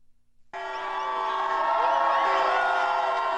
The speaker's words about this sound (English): The sound of cheers going up as thousands of people march through the streets of the nation's capital today to show their support for gay rights. Many in the crowd carried rainbow flags and an array of signs, some demanding the right to get married